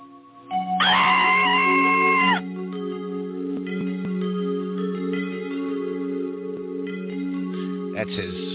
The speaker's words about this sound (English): Screaming in the night.